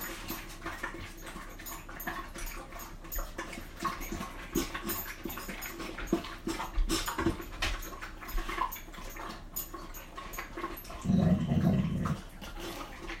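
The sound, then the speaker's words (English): A dog growls low amid steady rustling, scuffling noise as Lammy comes over to investigate, with one louder, deeper rumble swelling near the end before fading. No one speaks. “and growling because Lammy's come over to investigate.”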